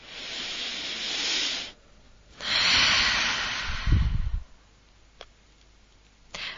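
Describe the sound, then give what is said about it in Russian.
A breathy deep inhale is followed after a short pause by a slow, longer, louder exhale made with sound that ends in a low voiced sigh. A couple of faint clicks come afterward; no one speaks. “Закрываете глазки, делаете глубокий вдох, медленный выдох со звуком.”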